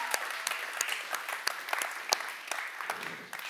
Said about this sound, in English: So I really hope you guys are sinking your teeth into this, and you have phenomenal leadership. Can we clap it up for them one more time tonight?